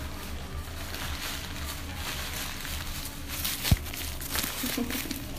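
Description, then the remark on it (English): Steady rustling and crinkling of paper towel being wrapped around a phone, with one sharp tap partway through and no one speaking. “I'm gonna wrap my phone in a paper towel and then I think, a baby.”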